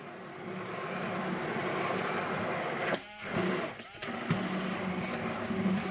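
A steady motorized whir from an immersion blender running inside a jar, slowly incorporating oil into the other ingredients to make mayonnaise, loud, with brief dips and shifts in pitch as the blade moves through thick contents.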